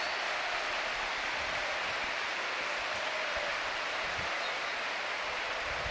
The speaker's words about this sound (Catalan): Sí. Se'n va Raïm, entra Cazorla i aplaudiments de tot el camp.